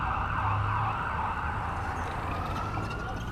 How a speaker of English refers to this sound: Yeah, we're gonna be experiencing what it's like to be a downtown, uptown commuter. And we're gonna experience traffic noise.